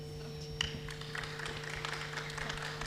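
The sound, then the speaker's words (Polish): A crowd claps steadily for a band that has just hurried over from the cathedral carrying its equipment, a dense patter of many hands that holds for the whole stretch over a constant low electrical hum, with no voices on top. “Brawa dla nich, brawa, bo oni zdążyli z katedry tutaj dobiec.”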